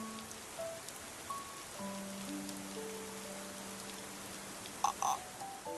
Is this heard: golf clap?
no